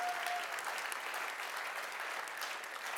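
An audience claps steadily for a few seconds, applauding God's work, a dense, even patter of many hands at a moderate level with no voices rising above it.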